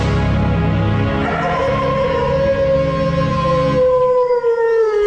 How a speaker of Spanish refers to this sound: más tarde, al igual que los otros días, el lobo salió aullando del bosque.